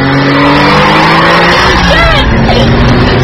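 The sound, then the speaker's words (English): A car engine roars loudly and steadily at high speed, with sweeping, rising squeals of tires skidding partway through, intense throughout. “Stop the car, Stefan.”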